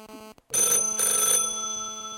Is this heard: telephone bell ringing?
yes